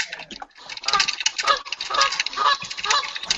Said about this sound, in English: Oh, God. That's a gander. That's a young gander. Well, you can just say goose if you want. No, it's a gander, though.